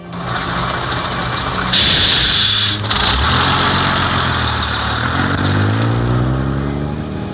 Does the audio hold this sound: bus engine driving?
yes